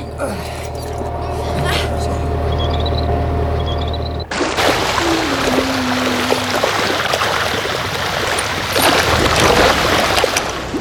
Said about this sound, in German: könnt ihr mir helfen, das Netz ins Wasser zu lassen